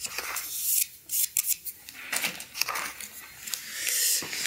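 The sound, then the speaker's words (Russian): A spoon clinks and scrapes against a container in quick, irregular strokes as about four spoonfuls of chemical reagents are stirred into water poured from a glass, for a flotation demonstration, with bright metallic ticks and soft swishing throughout. “Ну, давайте таких там 4 ложечки просто. Добираем. Прям в воду туда. Да, да, да, да, и размешивать.”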